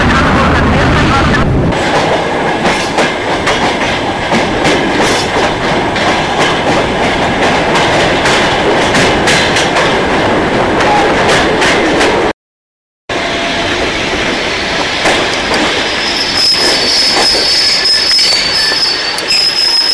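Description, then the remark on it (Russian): Railway wagons being shunted back and forth through the night rumble and clatter loudly and continuously, with metallic wheel squeals rising above the noise, a brief cut midway, and a sustained high-pitched screech toward the end. “С раздражением перегоняет всю ночь и швыряя вагоны туда и сюда.”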